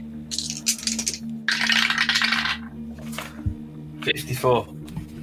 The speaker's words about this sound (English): Roll the dice.